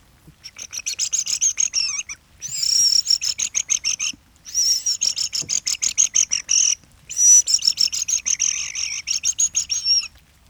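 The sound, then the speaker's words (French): Thrushes call in fast, rattling trills, high and bright, repeated in bursts with short pauses between them for about ten seconds, fairly loud with no talking. “Non, c'est des grives.”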